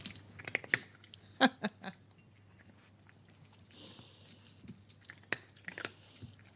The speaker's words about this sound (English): I love that sound. That's cat eating hard food in a bowl.